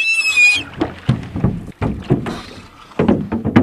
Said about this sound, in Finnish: niin vedepä rantaan, että käydään katsomassa vähän tarkemmin niitä. Joo, etenpä sen veneen tuohon telioille.